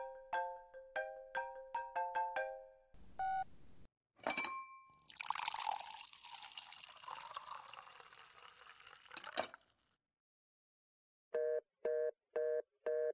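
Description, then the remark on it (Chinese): A phone ringtone plays a quick melody of bright electronic notes, followed by a stretch of clattering, splashy noise, then four evenly spaced ringing tones near the end. No one speaks. “你先接电话吧。”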